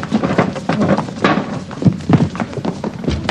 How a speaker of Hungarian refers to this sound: Gyorsan ezt az ágyat az ajtó elé! Mozgás, ti is!